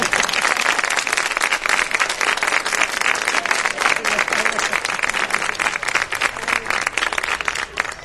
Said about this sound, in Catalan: Normalment aixeco els músics per a que els aplaudiu més fort i això, però com veieu hem entrat una mica en calçador, per tant, hem entrat i ja després sortirem, però ja no l'aixecaré. Per tant, aplaudiu-los igual de fort com si ho aixequés, vale?